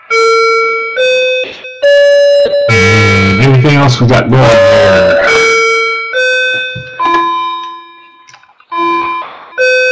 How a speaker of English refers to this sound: And that's my clock in the background.